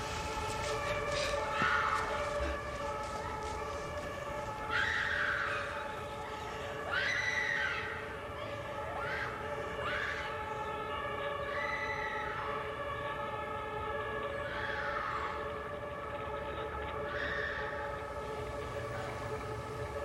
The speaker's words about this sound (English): So I was in Berlin recently. I was in Neukon, and there was just a constant sound of an ambulance. That ambulance happening. That German siren and just that lulls you to sleep. It's the sound of leaves and sirens is Berlin.